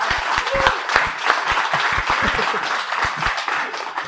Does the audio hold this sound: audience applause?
yes